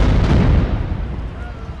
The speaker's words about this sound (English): So we're standing on a street corner talking about the fact that unexplained shooting and explosions happen here all the time. And to prove the case, we're hearing it right now. No one knows exactly who's shooting. No one knows exactly why,